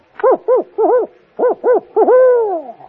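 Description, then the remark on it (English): A person imitates an owl in good humor with a run of short, rising-and-falling hoots in a bouncy rhythm, ending in one long drawn-out hoot that slides downward. Clear, with no other sounds. “Well, when an owl is in good humor, he goes like this.”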